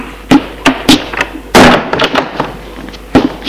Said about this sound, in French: Ouvrir la porte qui se trouve à droite de sa chambre. Entrer. Fermer la porte.